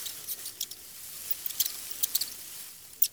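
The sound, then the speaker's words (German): Faint, dry scratching and rustling in short irregular bursts, like a small mouse scurrying through straw or paper, with quiet pauses between the scuffles and no voices. “Mama, was raschelt dort?”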